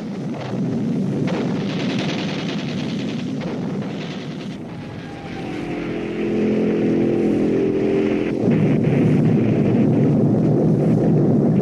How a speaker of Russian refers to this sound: Перед нами раскрывается панорама южной части немецкой столицы. Автомашины бесконечной вереницей направляются к линии фронта.